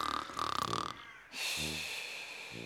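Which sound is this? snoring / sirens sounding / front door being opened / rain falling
snoring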